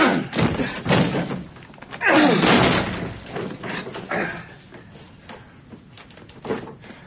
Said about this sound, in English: Get the door open. Get it open, quickly.